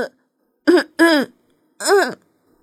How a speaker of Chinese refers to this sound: 就这样，站在美丽的月光下，他使劲地清了清嗓子，然后张开双臂高唱了起来。